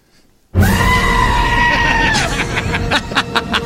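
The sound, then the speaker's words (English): A loud, sustained goat scream, edited into a music track, bursts in abruptly and holds for nearly two seconds over a dense music backing, followed by a run of sharp rhythmic hits. “Why did you mix goats into this?”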